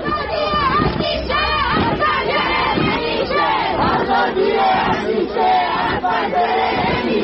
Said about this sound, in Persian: و بترسید و بلرزید از روزی که اونایی که میترسن و هنوز از پشت پنجره ها دارن با چشم های نگران اعتراض دیگران رو نگاه میکنن، این شعار دیشب بچه های اکباتان تهران رو لبیک بگن.